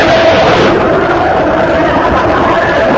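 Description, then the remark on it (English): A loud, unbroken wall of many people screaming together, blending into a dense roar that holds steady for the whole three seconds with no single voice standing out. “Those are people screaming in hell.”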